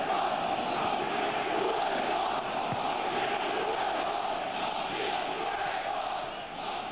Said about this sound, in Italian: Duello intanto tra, credo, tifosi del Malmo e quelli della Juventus a livello di scontri. Tifosi del Malmo che non hanno preso bene quanto accaduto nell'occasione del secondo gol della formazione bianconera.